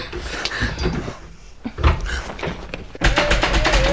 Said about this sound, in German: Ich schließe uns jetzt ein. Die andere Tür mache ich auch zu, damit uns niemand überraschen kann.